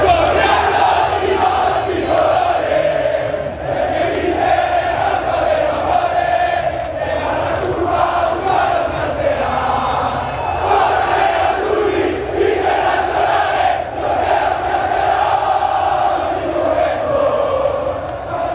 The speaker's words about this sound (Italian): Eccoli, sentite, decine di migliaia i tifosi che oggi pomeriggio hanno accompagnato il pullman dei vincitori per le strade di Milano, di fatto bloccata dalla marea nerazzurra.